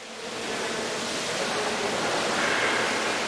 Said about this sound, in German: Und auch die große Sprudelfontäne in der Vzhidelny-Kolonnade schießt wieder spektakulär in die Höhe, nachdem das Leitungssystem erneuert worden ist.